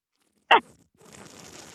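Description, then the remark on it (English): A quick sharp click followed by a soft, sustained airy slurp as someone sips and slurps a dry wine while tasting it, drawing it in through the lips, with no talking. “The slurp. The she sip and slurp.”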